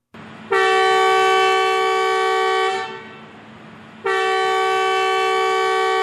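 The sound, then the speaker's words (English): A new metro train horn, one of six new trains running for the first time in Khartoum, Sudan, on a test trip carrying state officials from Khartoum's main station to Khartoum North Station, sounds two long, steady blasts, the first lasting about two seconds, then a short pause before the second. The tone is loud, rich and mid-pitched, with no voices. “That is one of the six new trains running for the first time in the Sudanese capital, Khartoum.”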